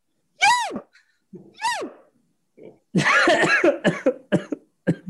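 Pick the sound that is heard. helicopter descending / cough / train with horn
cough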